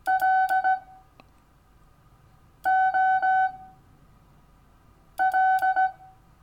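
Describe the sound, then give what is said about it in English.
Morse code beeps in a steady, fairly high tone: three identical bursts of short and slightly longer pulses, each separated by about two seconds of quiet, with no one talking. “Morse code can be quite modern, right?”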